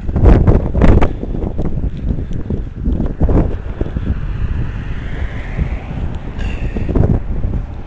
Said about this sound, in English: More traffic.